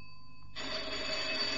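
A doorbell at a woman's home in the city rings as she prepares for an early night: a steady, clear ringing tone gives way after a moment to a louder, harsh buzzing rattle that continues to the end, with no voices.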